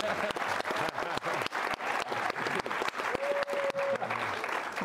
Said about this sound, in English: Wow, we'll give a hand of applause for the question.